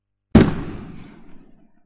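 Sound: explosion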